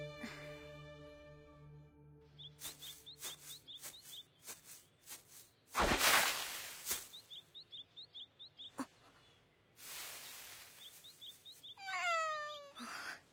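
A cat meows a couple of times, a long drawn-out call and then a shorter one, amid light chirping, scattered taps and a few loud bursts of rustling noise. No one speaks.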